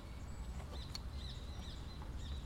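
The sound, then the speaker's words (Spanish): Faint birds chirp and tweet in short, scattered calls over a steady low outdoor rumble, with no one speaking. “Y los pájaros también.”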